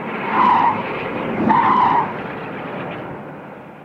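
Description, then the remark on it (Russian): A police patrol car's engine roars loudly as it tears away toward town, its clutch grinding, with two sharp screeching surges and a steady rumble that gradually trails off. No voices. “Заскрежетало сцепление, дико взревел двигатель, сквозь кусты мелькнули красные и синие сигнальные огни, и патрульная машина, сорвавшись с места, бешено набирая скорость, понеслась к городу и исчезла за стеной.”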